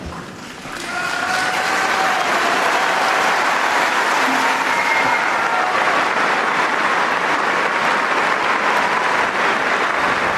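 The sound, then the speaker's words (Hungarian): At the Pope's audience, a large crowd bursts into sustained, loud applause, thanking the Holy Father for his catechesis. The dense clapping swells within the first second and holds steady throughout, with faint voices and a few tonal sounds mixed in. “Kedves hallgatók, a szokott módon nagy tapsviharral köszöntik a jelenlévők, és megköszönik a Szentatyának a katekézisét, továbbá pedig a jelenlévő méltóságok köszöntik a Szent Atyát.”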